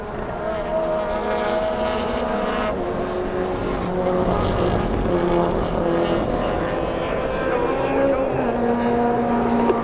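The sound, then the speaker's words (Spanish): A smoking race car's engine drones loudly and continuously during a race lap, its tone climbing and dipping as it runs through gear changes, staying steady for the whole stretch. “Toca dejar el carro tirado, no sé si alcanza a llegar otra vuelta.”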